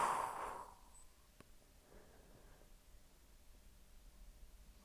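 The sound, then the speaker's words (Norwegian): A breathy exhale during a breathing exercise rushes out at the start and trails off within about a second, leaving a long stretch of quiet, faint background hiss with no talking. “All luften skal ut.”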